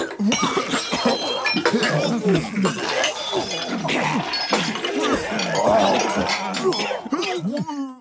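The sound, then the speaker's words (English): A crowd of people gagging and retching in overlapping, layered voices, a dense, continuous mass of throaty heaves, coughs and disgusted groans at a steady, fairly loud level; a sound effect made by recording people at an office gagging in different ways and piecing the recordings together into a crowd. “it was supposed to be this crowd of people gagging and grossed out by something”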